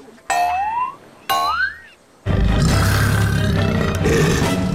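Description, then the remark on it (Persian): Two quick rising, springy tones, then a loud, rough roar of a leopard coming out of a forest, which bursts in and holds steady for about two and a half seconds. “ناگهان یک پلنگ از جنگل بیرون شد.”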